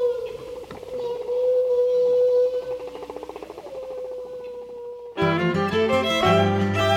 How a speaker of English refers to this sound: Humpback whales are among the largest mammals on Earth, but we rarely see them. To unlock the secrets of humpback behavior, researchers have turned to sound to hear what they cannot see.